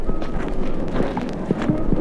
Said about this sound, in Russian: Солнце и снег. Снег, слышите, какие шаги? Размытые. Не то еще снег, не то уже вода.